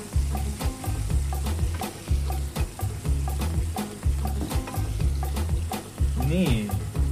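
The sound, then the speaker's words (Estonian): Scallops sizzle and crackle steadily as they fry in a hot pan, with repeated scraping and stirring knocks and a low rhythmic rumble underneath throughout; no one speaks. The scallops fry for three to four minutes. “Selles suhtes kiloind on küll kallis, aga voolu läheb teile vähe, sest et praadimisaeg on 3-4 minutit.”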